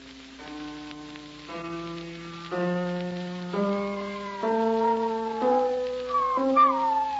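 A big, fat spaniel howls along with a piano being played during a piano lesson, in long, sustained wails that shift pitch step by step alongside steady held piano notes, growing louder and wavering near the end over a faint hiss.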